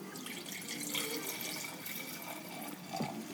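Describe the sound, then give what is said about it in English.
Wine pours steadily into a glass, a continuous splashing trickle with a faint rising tone near the end as the glass fills. “I gotta pour more, because I want to.”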